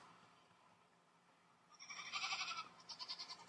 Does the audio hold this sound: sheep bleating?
yes